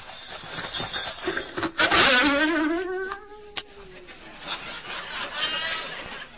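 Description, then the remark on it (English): An alarm clock goes off promptly at 6 o'clock as a single buzzing, wavering tone that rises in pitch and lasts about two seconds before being shut off, leaving faint background noise. “Promptly at 6 o'clock, my alarm clock rang.”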